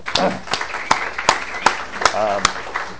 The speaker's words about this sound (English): And I want to give her applause for that.